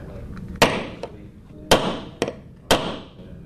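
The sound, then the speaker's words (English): A hammer drives nails with four sharp, ringing strikes, unevenly spaced, each blow cutting through a low, quiet background, as a 17-year-old student builds a mousetrap car at Ocean Lakes High School in Virginia Beach. “at Ocean Lakes High School in Virginia Beach is making a mousetrap car, and there's a lot of sawing and nails and talk of wheel alignment involved.”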